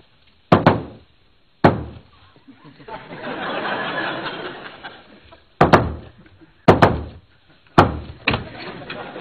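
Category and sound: household object, knocking on a door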